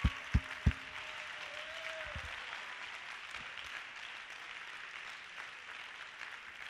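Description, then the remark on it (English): A church audience breaks into sustained applause as a hand clap of praise, a steady wash of many hands clapping at even loudness, with a few sharper claps and thumps standing out near the start. “Now, I want a loud hand clap of praise on that.”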